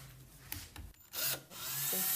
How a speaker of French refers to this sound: Et ensuite, le lendemain, elle les file, pas au rouet, à la perceuse. C'est très facile. J'ai attaché un bout avec une épingle à linge.